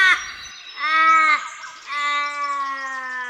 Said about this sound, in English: This episode, we're exclusively using the iconic call of the Australian Raven, which is just what I called crows growing up. So this is crows to me, but apparently it's the Australian Raven.